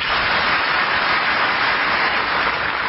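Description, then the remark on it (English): A crowd in Alabama applauds a presidential speech line that freedom is the Almighty's gift to everybody, many hands clapping into a dense, even hiss-like roar that holds the same level throughout without voices. “Now, there's like 30 seconds of applause here for the Almighty being for this war in Alabama.”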